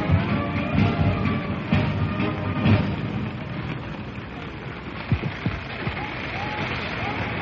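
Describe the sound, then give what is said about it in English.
Heavy rain pours down on the crowd at the Trooping the Colour ceremony in a dense, steady hiss that never lets up, with a few soft thumps and indistinct murmuring voices mixed into the downpour. “To report this, just a rustle of agitation in the crowd, because it is now absolutely pelting down, and the press are leaving.”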